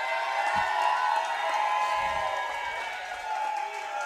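A huge stadium crowd of Chiefs Kingdom fans roars and cheers for Pro Football Hall of Famer Bobby Bell in a steady, sustained wave of noise, with scattered whoops and clapping mixed into the dense din.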